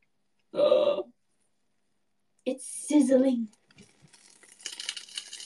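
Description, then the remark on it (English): Food topped with sauce sizzles in an oven with a steady, crackling hiss that swells over the last couple of seconds, following two short bursts of a person's voice. “It's sizzling, guys. Oh my God. It's sizzling!”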